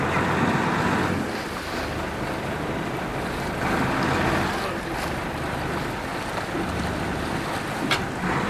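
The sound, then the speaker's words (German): A fishing boat moves on across the sea after its net has been hauled in and the deck scrubbed, its low engine drone blending with rushing waves and gusts of wind buffeting the microphone, a continuous loud wash with no talking. “Also sie haben jetzt am Ende das Netz dann ganz rausgezogen und dann mit Eimern Wasser über die Fische geschüttet und auch nochmal das Deck geschrubbt. Und jetzt geht's weiter.”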